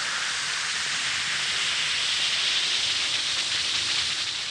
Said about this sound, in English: Just drop one or two Alka-Seltzer tablets into a glass of water like this. Listen to it fizz.